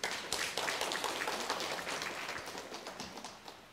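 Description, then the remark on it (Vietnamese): A crowd breaks into sustained applause, many hands clapping densely and steadily at a fairly loud level, with no voices standing out. “Mời cho anh tràng pháo tay lớn đi.”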